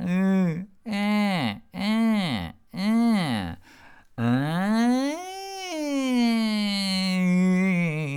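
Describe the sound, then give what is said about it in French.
During a voice exercise, a voice mimics a witch's crying: four short, arching sobbing wails, then one long quavering cry that swoops up and slowly falls. It is loud and high-pitched, with no words. “On va rajouter à ça ce qu'on a vu également dans des sessions précédentes, c'est le pleur. C'est-à-dire que la sorcière, elle a un peu ce côté-là.”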